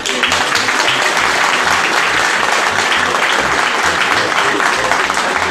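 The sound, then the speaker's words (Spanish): An audience at a ceremony applauds the municipal president who is heading it, clapping steadily and loudly for several seconds, a dense, continuous patter of many hands with no pauses, while a faint low rhythmic thump pulses underneath. “Un fuerte aplauso al señor presidente municipal, que está haciendo el honor de encabezar esta ceremonia.”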